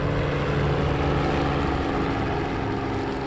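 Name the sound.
helicopter flying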